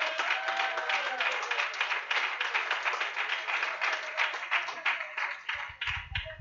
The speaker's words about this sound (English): Amen. Would you clap your hands unto God?